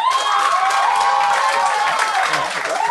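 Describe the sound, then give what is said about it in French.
A live audience bursts into loud, sustained applause mixed with whoops and cheering voices as it votes by applause, a dense wall of clapping that stays steady for about three seconds. “Par applaudissement, c'était-tu Richard Petit?”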